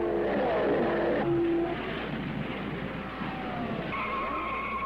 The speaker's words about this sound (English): It's Al Unser, Bobby's brother. He smashes the wall in his four-wheel drive turbocharged Ford, bringing out the first caution flag and the first set of pit stops.